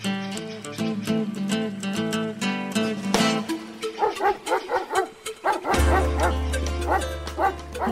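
small dog barking

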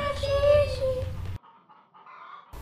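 hens clucking

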